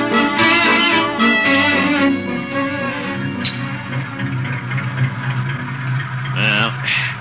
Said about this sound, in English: car's running all right now. Guess it was just flooded this morning.